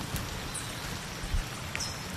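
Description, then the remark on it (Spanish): Steady, dense hiss of rain falling across a wide area in the Peruvian Amazon rainforest, at the indigenous community of Barranca, with scattered drops and faint bird chirps in the background; no one is speaking. “Están escuchando cómo suena la lluvia en la Amazonía peruana.”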